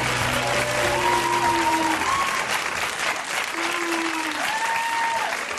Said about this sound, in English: You hear that booing? No, that's not. That's booing? Not booing. That's the bear call.